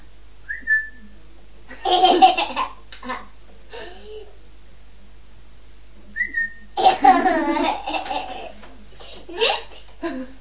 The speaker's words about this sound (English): What's that? A noise. It's a noise. Am I whistling? Am I whistling to you?